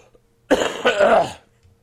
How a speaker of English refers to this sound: Excuse me. While I cough. I'm still getting over the problem I was having last week with my throat.